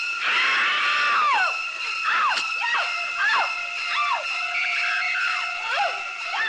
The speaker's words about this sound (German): Staccatohaft werden die kreischenden Streicher zum immer wieder herabsausenden Messer eingesetzt. Pure Dramatik, Musik, die zum Entsetzen einlädt.